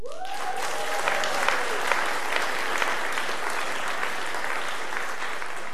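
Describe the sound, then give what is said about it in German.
An audience applauds steadily, a dense wash of many hands clapping at an even level, with a faint rising whistle-like tone at the very start. “Ob das nächste jetzt auch noch Applaus kriegt, das wage ich zu bezweifeln.”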